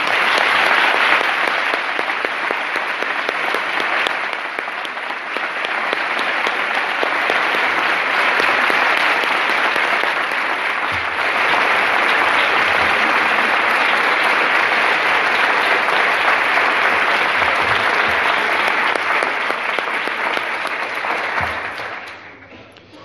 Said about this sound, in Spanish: Y ahora su iglesia, aquí reunida, por medio de sus cofradías, en agradecimiento por este gesto que por siglos se quería, reciba este aplauso con nuestro cariño y cortesía.